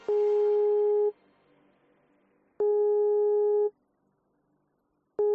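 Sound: telephone busy signal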